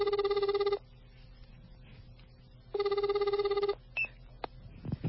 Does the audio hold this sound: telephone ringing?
yes